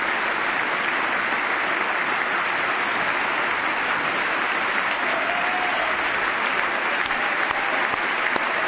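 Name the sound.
extended applause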